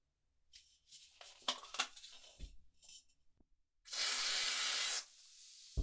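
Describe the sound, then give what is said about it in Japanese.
A few soft rustling handling noises, then a loud, steady hiss as a can of carbonated lotion sprays continuously for about a second, followed by a faint fizzing crackle. “炭酸ローションはあった。”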